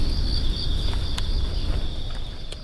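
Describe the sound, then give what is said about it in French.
Pandas eating bamboo at the Chengdu panda centre, with a few sharp crackling snaps of branches scattered over a steady high insect chirring and a low outdoor rumble. No one speaks. “vous entendez peut-être des branches qui craquent derrière moi et le bruit du bambou qui mâche.”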